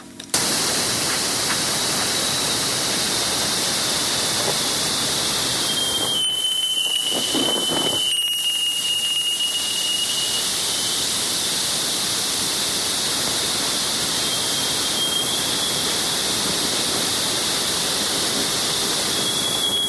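Sonified plasma waves from where the solar wind runs into Jupiter's magnetosphere, waves that help heat the solar wind as it is slowed and deflected: a loud, steady rushing hiss with a thin high whistling tone running through it, two brief quieter dips early on, and a faint extra tone later.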